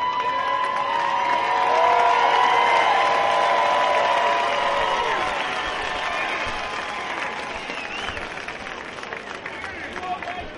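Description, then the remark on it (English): A baseball stadium crowd applauds and cheers in a steady, dense roar, showing appreciation for Leyland going out to have a stern chat and argue. The roar swells in the first few seconds and then slowly eases, with scattered shouts and voices mixed through it. “The crowd, I think, appreciative of Patrick Leyland going out to have a stern chat there.”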